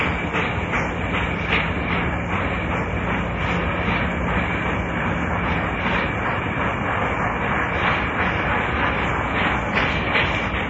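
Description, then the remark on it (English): A freight train of 147 cars carrying grain, wheat and livestock roars past on the prairie in a loud, unbroken rumble, with a faint rhythmic clatter of wheels pulsing through the steady roar and no voices. “That is an ocean liner of the prairie.”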